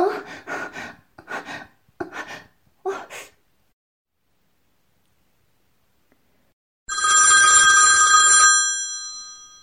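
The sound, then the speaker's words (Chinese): Several short, breathy vocal bursts give way to a pause, then a telephone rings once for an incoming call, a loud, bright electronic trill lasting about a second and a half. “怎么有空给我打电话了呢？”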